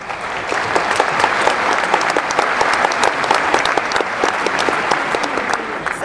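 A sustained round of applause fills the whole stretch, a dense patter of many hands clapping at steady volume, without any talking over it.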